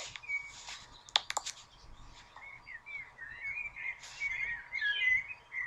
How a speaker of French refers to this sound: Vous entendez le doux chant des oiseaux.